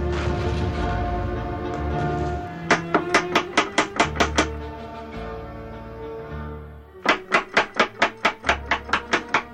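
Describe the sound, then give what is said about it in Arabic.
Two bursts of rapid, even knocking on a door, each about nine or ten sharp raps, loud over a steady, low musical drone that plays throughout. “من الطارق؟ ما الخطف؟ افتح الباب يا قمر بانو”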